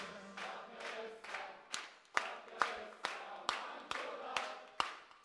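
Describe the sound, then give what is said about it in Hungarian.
A group claps hands together along to a song in a steady, even rhythm, about a dozen sharp claps at a brisk pace, with a faint murmur of voices underneath. “Na figyeltek meg, kijöttök, csak tapsal, csak énekkel.”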